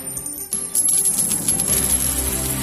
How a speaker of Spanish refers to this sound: Ese sonido de las monedas, que cada vez era menos frecuente con la pandemia,